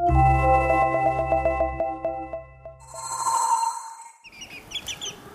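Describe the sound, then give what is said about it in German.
A short tonal musical jingle with a low drone fades out, followed by a few seconds of high, rapid peeping from seven chicks, with scattered softer calls from hens, in a school courtyard in Gescher, Germany. “Drei Siebtklässlerinnen und 7 piepsende Küken und Hennen.”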